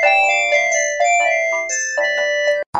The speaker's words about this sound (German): Telefon!